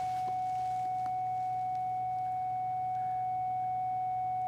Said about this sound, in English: And that was a bell, so just to prove that we are in a classroom.